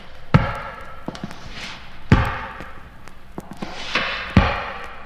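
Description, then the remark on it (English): Three heavy, slow footfalls thud with a hollow echo as someone walks in a hall, with faint clicks and creaks between the steps. No one speaks. “But then the average person becomes upset over such simple things as a door opening, footsteps in the hall.”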